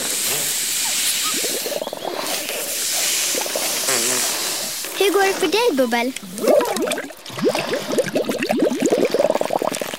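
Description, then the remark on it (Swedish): Balloons are being blown up to send party invitations by balloon post, with steady breathy rushes of air filling the first half, then voices start talking over fainter blowing. “Blås upp ballongen nu allihopa.”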